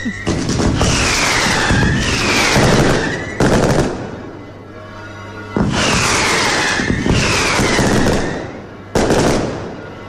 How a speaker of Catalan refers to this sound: Molta pólvora, molt de soroll. La traca ja ha fet la seva funció i en aquest moment el que s'estan disparant són uns quants coets, no? I aquest repic de campanes de festa, que és tan bonic.